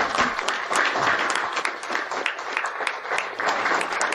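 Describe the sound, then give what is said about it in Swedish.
A steady round of clapping from a small group, dense and even throughout, with no voices over it. “Det var nästan värt en applåd.”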